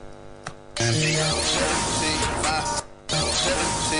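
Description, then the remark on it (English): A loud, steady wash of white noise sound effect hisses over a playing music track during song production, dropping out briefly twice before surging back in and covering the whole mix. “Okay, that's too much white noise.”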